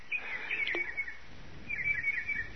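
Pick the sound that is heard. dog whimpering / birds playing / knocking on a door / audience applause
birds playing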